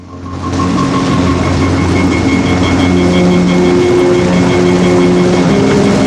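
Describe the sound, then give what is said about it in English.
Police helicopters taking off after black-uniformed police board through the side doors: a heavy engine roar kicks in after a brief quiet start and holds loud and steady, with droning turbine whines layered through it and no voices. “The black uniformed police pile through the side doors of the choppers, which take off.”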